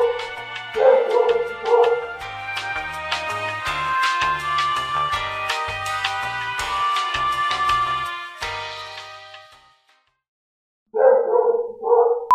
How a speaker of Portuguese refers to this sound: E o cachorro tá latindo. O cachorro também.